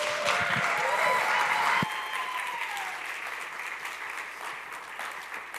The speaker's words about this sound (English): So would you give a warm round of applause to my friend